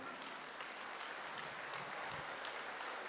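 Sustained audience applause, a dense steady crackle of many hands clapping at an even loudness throughout, with no voices standing out.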